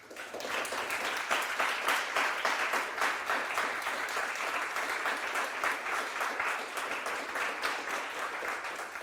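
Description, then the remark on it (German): Sustained audience applause for the speakers at the close of a livestreamed Netzpolitischer Abend event, a dense steady wash of many hands clapping at even loudness for about nine seconds, with no voices standing out. “Nochmal einen herzlichen Applaus an unsere Referenten.”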